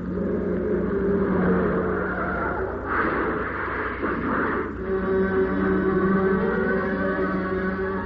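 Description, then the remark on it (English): A car engine drones steadily at speed, interrupted midway by a harsh, noisy burst of scraping as the car, taking a corner too fast, hits the rear of a big lorry slewed across the lane with a glancing blow, before the engine hum carries on. No one speaks. “We hit the rear of it with a glancing blow”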